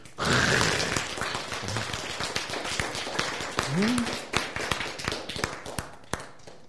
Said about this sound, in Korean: 박수!